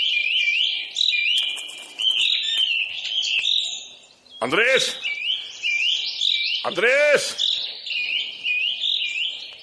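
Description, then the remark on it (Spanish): Small birds chirp and twitter continuously in rapid high-pitched bursts as they are being fed on a ranch, while a voice calls out loudly twice over the chatter. “Dale de comer a los pajaritos”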